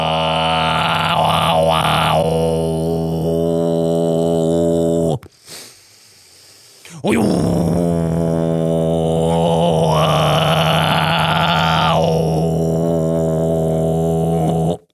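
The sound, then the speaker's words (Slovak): A voice imitates the traditional sound of Martian national singing, as known from Futurama, with loud, buzzing, guttural droning tones, breaks off for a short pause, then resumes with a wavering, sustained chant. “Dámy a páni, toto bol tradičný zvuk marťanského národného spevu, pokiaľ poznáte Futuramu.”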